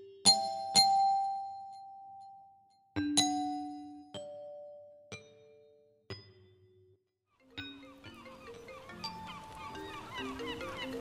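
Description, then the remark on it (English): A two-tone doorbell chime rings again and again, each clear ding-dong spaced a second or so apart, then rapid presses pile up into a jumbled, overlapping clatter of chimes. “He won't stop ringing! He won't!”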